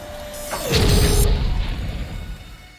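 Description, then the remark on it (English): The door of Wally's home slams shut behind Wally and Eve amid a billowing storm, with a heavy, deep boom, preceded by a steady mechanical hum and a brief sliding whoosh, then a low rumble that slowly fades. “Wally's hand clamps Eve's arm amid the billowing storm, and he leads her up the ramp of his home, the door slamming shut behind them.”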